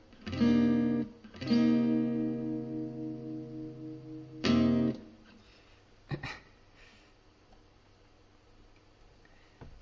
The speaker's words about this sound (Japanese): ちょっとなんかエコーをかけてみたり。